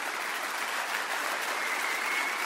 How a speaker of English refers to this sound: And you can applaud that.